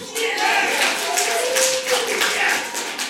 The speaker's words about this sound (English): The courtroom erupted in applause and in tears.